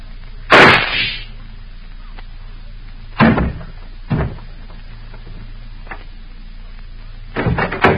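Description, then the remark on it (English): A single sharp, loud gunshot cracks out with a brief ringing tail, followed by a few duller thumps and knocks spaced over the next several seconds. “I heard a shot.”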